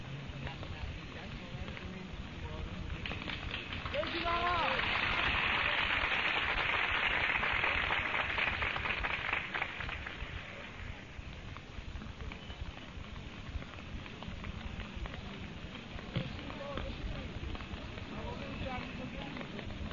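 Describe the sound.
Steady, dense hiss of heavy rain pouring down, swelling louder for a few seconds early on before easing back to a constant downpour, with a faint voice briefly underneath.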